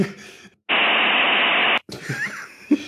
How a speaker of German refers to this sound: Und Hauptteil wird ein Zitat eines 56K-Modems sein, dass ich 1:1 hat einschreiben werde.